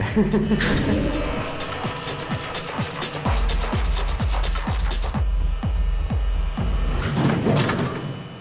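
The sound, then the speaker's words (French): A heavy wrought-iron door in a tunnel grinds and scrapes on its hinges, producing a sustained, drone-like metallic groan with repeated creaking pulses, loud, with no talking. “Donc, ça fait une musique de drone.”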